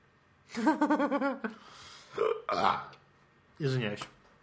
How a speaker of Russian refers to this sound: Извиняюсь. Свинья. Я извиняюсь, у меня сегодня день отрыжки. Так. Я понимаю, что у тебя день отрыжки, но ты знаешь, даже отрыжку можно сдержать. Или как-то потише ее сделать, да?